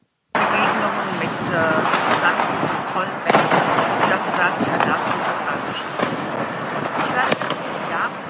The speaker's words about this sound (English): I can barely hear her over those fireworks. Yep, it was an amateur video in every respect. She was off mic. She was trying to send a heartfelt message to those suffering in a war while she was standing in front of New Year's Eve revelers